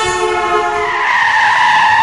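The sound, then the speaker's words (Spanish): A car's tires squeal in a long, loud skid as it nearly hits a child who crossed without looking, the harmonic screech shifting pitch as it drags on for about two seconds, with no voices. “Un niño cambió de acero sin mirar y casi le pilla un coche.”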